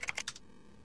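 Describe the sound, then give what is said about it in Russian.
Key shortcuts are typed on a computer keyboard: a quick burst of about four crisp key presses in close succession, then a faint quiet tail with no voice. “Есть несколько полезных сочетаний с клавишей Ctrl.”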